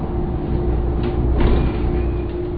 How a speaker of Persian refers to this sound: صدای از دور می آید. بیشک این صدا متعلق به اتوبوس است، اما من چیزی نمی بینم. این مه لعنتی.